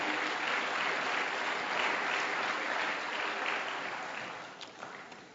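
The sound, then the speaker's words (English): A crowd claps steadily for a house church group in a dense, even wash of applause that holds strong for several seconds, then gradually thins and fades toward the end. “Give them a big round of applause because they had to endure me.”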